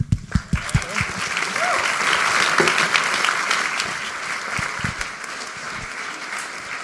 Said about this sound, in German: Nun freut es mich sehr, dass wir Adrian Fichter für den Eröffnungsvortrag oder die Keynote des Winterkongresses gewinnen konnten. Adrian? Darf ich einen Applaus?